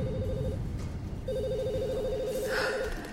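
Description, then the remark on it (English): An office telephone in Congressman McGuire's office rings with a warbling electronic trill: a short burst, a brief pause, then a longer ring, fairly loud over a steady low background rumble. “Phones in the office were ringing off the hook.”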